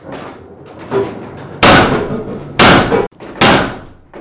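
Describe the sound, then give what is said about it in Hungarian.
A forge trip hammer, a cam-driven hammer at an iron-hammer mill exhibition, pounds iron with three loud, crashing blows at uneven intervals, each ringing briefly. A fainter knock comes first, and there is no talking. “Tehát ez a farkas kalapát, de kipróbálhatjuk, hogyha gondolják.”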